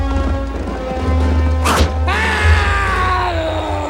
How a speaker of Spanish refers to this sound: Una flecha se clava en su pierna.